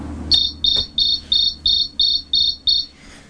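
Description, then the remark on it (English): A cricket chirps eight times in a steady, even rhythm, each high-pitched trill short and bright, standing out clearly over a quiet background with no talking. “That's a very, ouch, the very quiet cricket.”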